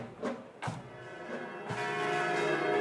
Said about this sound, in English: But as the bells of the Church of the Nativity rang through Manger Square, Palestinians said they were grateful for a moment to remember